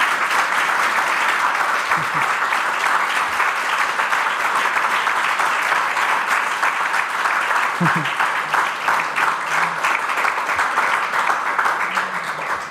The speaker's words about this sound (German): Wir machen eine kleine Pause, aber bevor wir das machen, bitte ich noch um einen Applaus für Florian Krammer.